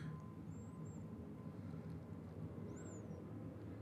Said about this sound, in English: Listening to the airplane flying overhead. Wow, I want to tell you, there have not been many airplanes here for the last couple of years. They don't all fly over our place.